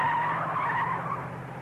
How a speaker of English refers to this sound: Hey, she's starting her car.